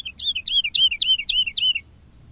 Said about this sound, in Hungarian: Ez meg milyen madár lehet? Túlszállt már 3 felleget, s mindjárt eléri az eget. A pacsirta. Ki más lehet? Mindig csak az eget járja, földön fészkel, égen szárnyal, soha se röpül a fára.